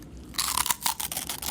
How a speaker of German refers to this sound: Es knuspert da hinten vorne. Knuspert jetzt ehrlich auch so laut, wenn ich. In meinem Kopf verstehe ich die fast nie, weil so laut bei Zwieback knuspert. Knuspert jetzt gegen aus auch so laut?